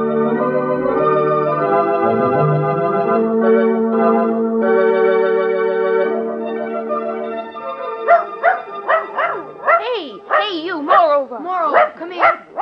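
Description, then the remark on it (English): A bird-hunting dog whines in long, drawn-out tones, then breaks into a quick run of high, excited yips and barks, loud. “Expect to be a high-rating dog making all that noise, huh?”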